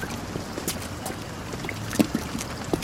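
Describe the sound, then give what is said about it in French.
Rain patters down in an irregular scatter of soft taps over a steady low wash of noise, with a few slightly louder drops standing out and no voices. “Oh merde, de la pluie.”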